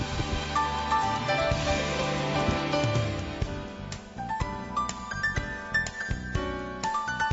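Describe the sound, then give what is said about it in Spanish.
Real champagne glasses holding real champagne clink together in a New Year's toast, a flurry of bright, ringing taps, their tones lingering and overlapping before a few more sharp clinks near the end. “Sí, porque las copas son de verdad y el champán es de verdad.”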